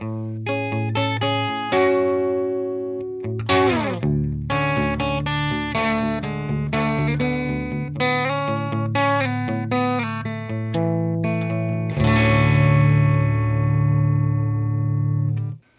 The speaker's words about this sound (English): MOSFET overdrive based on the 2N7000 transistor. It does really nice sparkly clean. It does really fat distortion and has a really beautiful transition between the two extremes. Here's a little bit of what it sounds like.